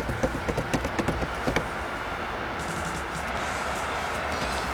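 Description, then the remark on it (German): A quick run of about ten light tapping footstep sounds, imitated by a person, patters for a second and a half, then stops, leaving a steady low rumble of background noise. “Warte, ich mache Tapperschritte.”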